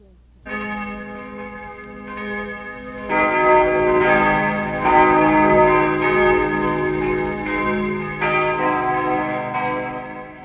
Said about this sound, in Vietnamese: Sau buổi chầu thánh thể, chuông trong chủng viện nổi lên vang lừng.